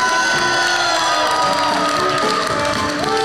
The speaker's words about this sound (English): How are we doing today, Vegas? Welcome to a live taping of Making Podcasts Great Again here from Stand Up Pod Jam. Give yourselves a round of applause for coming out tonight.